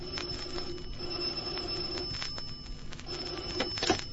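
An old-fashioned telephone bell rings in the morning, steadily and fairly loudly, a continuous metallic jangle with a slightly rattling edge that carries on for several seconds with no voices.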